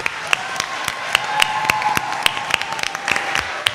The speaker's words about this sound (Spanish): Un aplauso para vuestra compi.